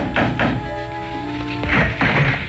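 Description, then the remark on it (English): Knocking on the wooden door of the Adams house at dusk: two quick dull raps, a pause, then two more, with a faint sustained musical tone humming underneath in the gap. “And dusk was beginning to fall when, exhausted, famished, and dirty from the road, I knocked on the door of the Adams house.”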